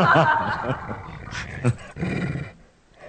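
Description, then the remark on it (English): A dog, Ranger, barks in a few loud, rough bursts with growly tones between them, the last stretch trailing off into quiet. “Hey, dog. Talks about dog.”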